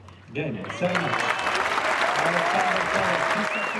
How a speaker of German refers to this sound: 4.300 Zuschauer im ausverkauften Center Court begeistert. 7:5 und 6:1 für Zverev gegen Juan Ignacio Londero aus Argentinien.